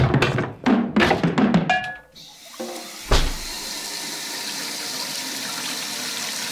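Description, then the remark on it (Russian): A few clattering knocks and bumps, then a kitchen tap opens and water pours steadily into a watering can used for watering plants, a continuous hiss of filling that runs to the end. “Надо же снова воды набрать, чтобы она отстоялась и было чем поливать растения в следующий раз.”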